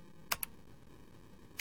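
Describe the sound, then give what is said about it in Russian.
Three sharp computer keyboard key clicks, two close together near the start and one more after a pause, crisp against a quiet background. “Нажатие клавиши Tab перемещает к следующей ссылке на странице или к следующему полю формы.”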